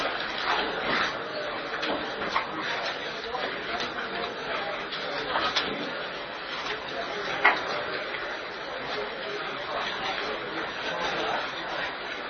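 A printer runs steadily, giving off a continuous mechanical whir with faint ticking and a few sharper clicks. It is moderately loud and close, and there is no clear talking.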